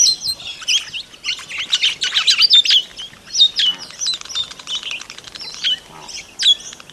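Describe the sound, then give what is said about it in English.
Red-rumped parrots, grass-dwelling birds of southeastern Australia, chirp in a busy, overlapping chatter of bright, high warbling notes, several birds calling at once, steady throughout, with no voices present. “It's the red rumped parrot.”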